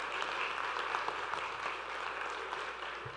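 A crowd claps steadily in a dense, sustained burst of applause for an audience member, many hands at once at moderate loudness with no break.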